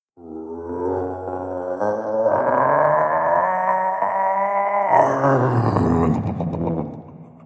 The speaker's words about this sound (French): Pis c'est à ce moment-là, toi, qu'un grondement inhumain s'est élevé de la terre.